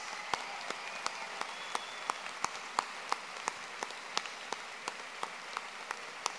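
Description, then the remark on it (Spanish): An audience applauds steadily and fairly softly for students of a university's secondary school, a dense wash of clapping with sharper individual claps popping out at a roughly regular pace throughout. No one speaks. “Un aplauso para ellos.”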